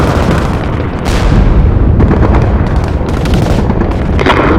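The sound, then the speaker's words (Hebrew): Heavy tank gunfire and explosions as tanks are ordered to fire on and destroy enemy forces: a loud, continuous low rumble punctured by several sharp booming blasts at irregular intervals, with no voices. “משנה ושלוש, כאן טייגר, השמידו אותם, שימו לב לא לראות לכיוון שלנו.”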